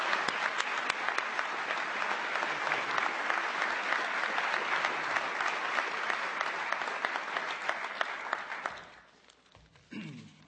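Sustained applause from a large audience at a White House event honoring a veterans' advocate, a dense steady wash of many hands clapping for about nine seconds before it quickly fades out, with a brief faint sound at the end.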